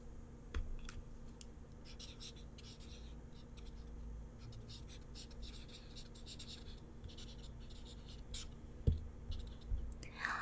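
pen writing on paper

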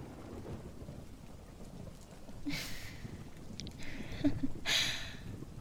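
thunder

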